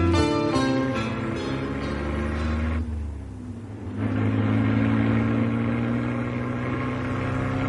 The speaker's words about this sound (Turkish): Şu küçücük arabamın motor gücünü hiçbir araba yetişemez. Yol düzgün ve güzel.